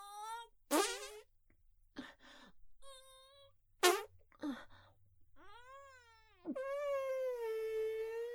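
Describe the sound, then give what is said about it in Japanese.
A person passes gas while trying to defecate: a couple of short, buzzy fart noises mixed in with long, wavering, cat-like wails and moans, with no talking. “あ、いや、おならは出たけどさ、うんこは全然だわ。”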